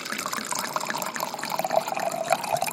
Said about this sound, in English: Of course, my gorgeous girl couldn't resist, so now she's going to pour some delicious Pinot Noir.